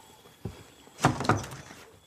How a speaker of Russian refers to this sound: Стучит в дверь соседу.